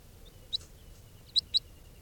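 Three short, high-pitched chip calls from a captive juvenile crossbill, bird 431, one alone and then a quick pair, sharp and fairly clear over a faint, steady background hiss.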